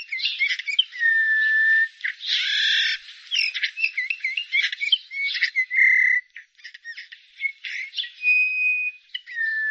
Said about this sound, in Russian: Однако этих веселых красногрудых птиц мы видим все реже. И записать голос снегиря тоже редкость.